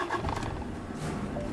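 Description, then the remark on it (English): A car engine starts and runs with a loud, steady low rumble and a gritty, roaring edge, continuous for the whole short moment, with no voices. “And I get into a car with this man”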